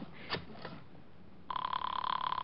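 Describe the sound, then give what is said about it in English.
A few faint clicks, then a telephone starts ringing on the line during an outgoing call to the Fifth Precinct: a steady, buzzing electronic ring tone at moderate volume, heard as if through a handset. “Give me the phone.”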